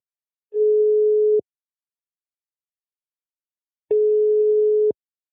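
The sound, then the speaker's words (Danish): Two long, steady electronic ringback tones sound with a few seconds of silence between them, clear, a phone line ringing while a call connects to a researcher and project leader at Danish biotech company Topsø. No one speaks. “Vi ringer til forsker og projektleder”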